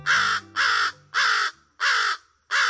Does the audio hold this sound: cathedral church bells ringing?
no